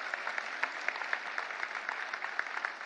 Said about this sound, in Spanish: Un aplauso al Señor.